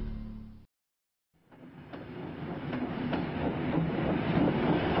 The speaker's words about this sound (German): Der Zug brauste in die Nacht.